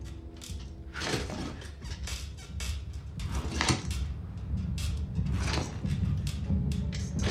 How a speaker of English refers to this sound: As he makes jerky movements, his chair inches closer to the workbench and pistol.